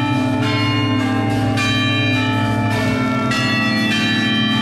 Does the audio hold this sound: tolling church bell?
yes